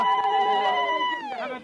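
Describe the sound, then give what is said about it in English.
A high, sustained wavering cry from women ululating at a prisoner-release drop-off point just outside Ramallah in the West Bank, a bright trilling vocal tone holding steady pitch for over a second before dipping and fading slightly at the end. “Women ululated.”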